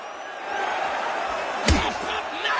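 A single sharp boxing punch, a hard left thrown by Jim Braddock against Griffin, lands with a thudding smack partway through, rising out of a steady, noisy crowd murmur that fills the background.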